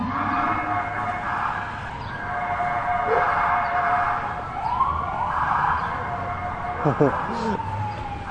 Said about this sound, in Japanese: さっきの、あ、パトカー3台ですよ。パトカーが3台。で、パトカーのサイレンに合わせて犬がワンワン吠えるのは全国共通なんですね。うん、吠えんでもいいのに。